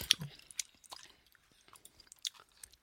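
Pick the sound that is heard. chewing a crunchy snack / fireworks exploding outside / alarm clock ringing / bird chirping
chewing a crunchy snack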